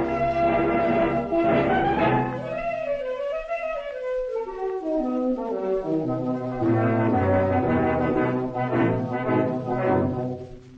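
An old recording of "Leones Rojos", the anthem of the Spanish national football team of that era: loud, sustained brassy chords with a sweeping downward glide in the middle, then full, steady harmonies swelling again, with no talking.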